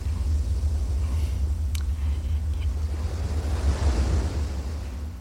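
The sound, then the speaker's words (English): Steady ocean surf rumbles and hisses, swelling into a fuller wash near the end before easing off slightly as the waves begin to fade. No voices are present. “As the sound of the waves die away”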